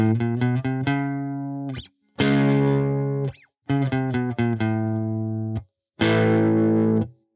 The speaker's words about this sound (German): Hiermit wärmst du den Wechsel zwischen Einzelnoten und Power Chords auf. Du kannst die Einzelnoten im Wechselschlag, aber auch nur mit Abschlägen spielen.